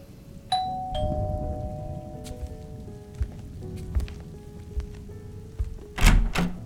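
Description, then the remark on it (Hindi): A hotel room doorbell in Kolkata chimes twice in quick succession during heavy monsoon rain, two clear ringing tones that hang and fade slowly, followed by a few soft thuds and a louder knock-like clatter near the end. “तभी मेरे रूम की घंटी बजी।”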